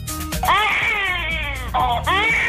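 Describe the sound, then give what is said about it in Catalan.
A 5-month-old baby in the Congress of Deputies wails loudly in sustained, rising cries, with a brief catch of breath before the crying resumes, over a faint background murmur. “un nadó de 5 mesos que, qui ho havia de dir, ha copsat no només les portades dels mitjans de comunicació”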